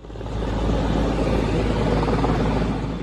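vehicle, helicopter

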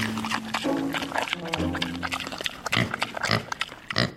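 animal, pig grunting

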